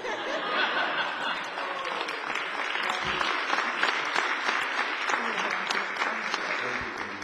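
Steady applause from a United Methodist church audience for a mission project fills the whole stretch, dense rapid clapping at an even level with a few scattered voices and light laughter mixed in, no clear speech.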